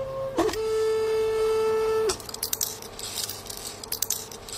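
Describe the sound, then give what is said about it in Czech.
An automatic seed dispenser resembling a small 3D printer moves its arm, set about 30 cm high, up, down, left and right to dose single seeds, with a steady motor whine for over a second, pitching briefly at the start, then stops amid a scatter of clicks and short mechanical rattles. “Ten dávkovač vypadá v podstatě jako malá 3D tiskárna.”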